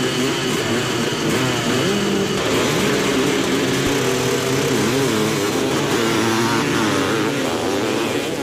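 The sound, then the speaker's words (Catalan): A loud, buzzing small motorbike engine drones in the street, its pitch rising and dipping as the rider revs, steady and continuous for the whole stretch with no voices. “Aquestes motos van a... i a vegades fan poca via, però fan molt de renou.”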